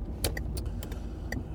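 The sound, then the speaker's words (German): A car's engine rumbles low and steady as the vehicle pulls away in third gear, straining, while a few short metallic jingles like rattling keys sound. “Okay, im dritten Gang anfahren ist jetzt auch nur so mittelprächtig intelligent.”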